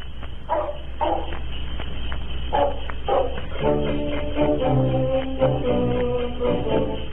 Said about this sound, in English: for example, the Clico Club, which is a ginger ale company, they sponsored a program called …, which was a band which played Eskimo music, including barking sled dogs.